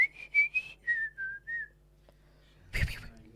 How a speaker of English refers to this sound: Please whistle loudly.